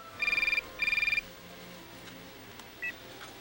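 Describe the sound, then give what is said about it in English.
A telephone rings twice, each ring a rapid warbling trill of about half a second separated by a brief pause, followed by a quiet short beep against faint background hiss. “Why don't we play back that phone call that you just described?”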